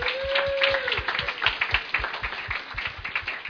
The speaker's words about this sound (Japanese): もう一度大きな拍手をお願いします。